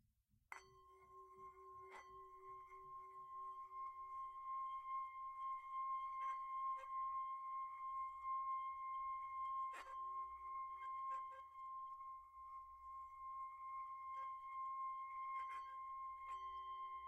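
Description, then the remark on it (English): Singing bowl number seven is struck with a mallet and rings out in a long, steady mid-pitched tone with shimmering overtones. A few more soft strikes renew the hum over about seventeen seconds. “I'm going to try bowl seven again with felt or suede mallet.”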